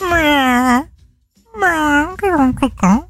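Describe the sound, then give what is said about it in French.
A person imitates an irritated cat, giving a long drawn-out meow, a pause, then a few shorter, whiny meows in quick succession, loud. “Mais il semblait énervé quand même, le chat.”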